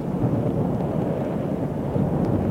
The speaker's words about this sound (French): La pluie grandit, le tonnerre gronde. Ils sont essoufflés, la pluie, le vent, les empêchent de respirer.